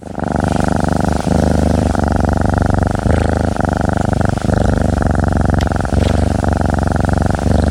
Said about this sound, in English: Did you recognize that sound? That's the sound of a healthy, well-cared-for cat. I truly hope you've been lucky enough to hear that sound before.